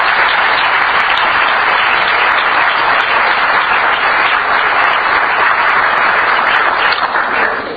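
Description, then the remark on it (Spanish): A crowd applauds steadily and loudly for several seconds, a dense wash of many hands clapping that holds constant before starting to taper at the very end. “al que también quiero un aplauso, porque con él hemos construido lo que hoy hacemos en Buena Nota.”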